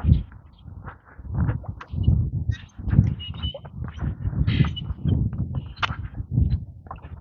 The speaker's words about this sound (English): Starlings. I think they're starlings. They sound like starlings.